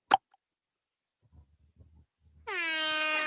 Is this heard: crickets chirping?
no